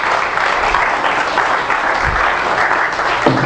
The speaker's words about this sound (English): Give the Lord a hand of applause and say.